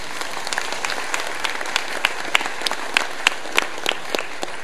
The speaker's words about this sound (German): Sowas brauchen wir nämlich auch, weil das baut sich ja alles nicht von alleine auf und ab. Und ich finde, das ist mal so ein kleiner Applaus wert.